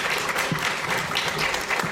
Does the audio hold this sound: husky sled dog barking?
no